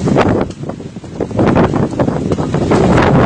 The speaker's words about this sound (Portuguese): que fizeram às vezes de repórteres mostrando realmente a força da natureza com esse vento ontem.